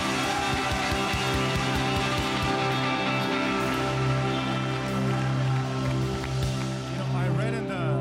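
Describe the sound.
A large crowd at the 5 p.m. C3 South Campus gathering cheers and shouts loudly and steadily for several seconds, a dense roar of voices with steady tonal sounds running underneath throughout.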